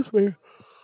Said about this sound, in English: Normally I be yawning, but I don't be.